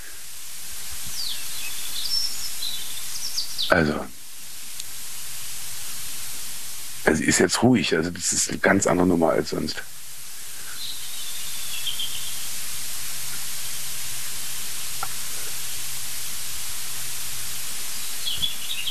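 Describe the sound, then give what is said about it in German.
Faint, high warbling birdsong of a European robin singing in short phrases over steady hiss, with a brief stretch of people talking in the middle. “Wir hören sogar ein Rotkehlchen singen.”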